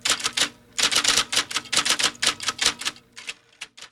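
Rapid clacking of a mechanical typewriter, bright sharp keystrokes in quick uneven bursts with a short pause near the end, fairly loud with no voices.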